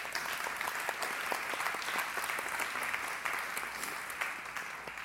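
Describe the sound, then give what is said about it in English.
A church audience claps their hands for standing members who went somewhere the day before, in steady, dense applause. Many overlapping crisp claps fill the whole stretch at an even, moderate loudness, with no voices standing out. “I know that not everybody is in the service who went, but those who did go, if y'all stand up, give them a little hand clap.”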